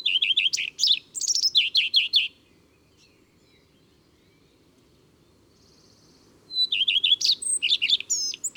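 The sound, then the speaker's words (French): Two bright phrases of common redstart song, separated by a pause: each opens with a repeated series of high, clear notes, then ends in a quick, varied twitter, over a soft low background hum. “Son chant est très simple. Toutes ses strophes commencent par « i tru tru tru ».”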